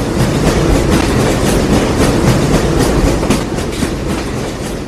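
A train rolls steadily along the rails with a dense, rumbling roar and a repeating clickety-clack of wheels over track joints, loud throughout, with no voices.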